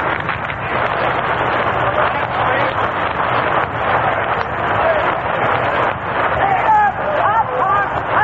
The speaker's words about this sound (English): Public address system isn't working very well. In fact, it's pretty hard to hear from up here just what they are saying.